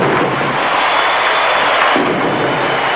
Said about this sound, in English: And that one's got a chance to set off the Finley fireworks on the 4th of July. It is gone! Home run, Bando!